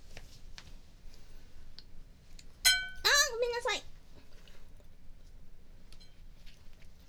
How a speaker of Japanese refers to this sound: ローションとかを使うのでちょっとお皿をね用意していたんですよ。それに当たってしまった。